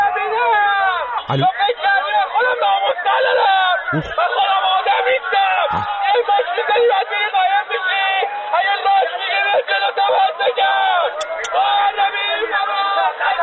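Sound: rowdy crowd shouting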